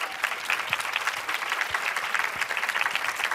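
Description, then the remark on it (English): At a women's conference, an audience applauds the few men who attended, a dense, even patter of many hands clapping at once with no pause, holding a constant moderate level throughout. “I want to applaud the few brave men who came out today.”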